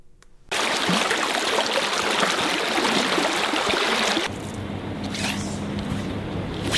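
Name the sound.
river water flowing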